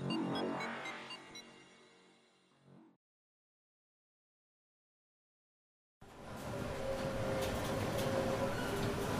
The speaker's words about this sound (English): Even when it's the end of the world, these trains are so slow. Well, maybe they can't get the staff anymore.